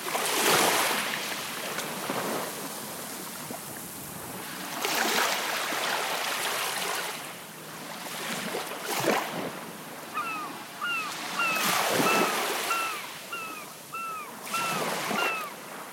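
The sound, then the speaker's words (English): Sea waves wash onto a beach on the coast of a bay in broad, hissing surges that swell every few seconds, while a bird chirps repeatedly in the final stretch. “As you breathe all of this in, listening to the sounds of the coast, allow peace to fill your whole being.”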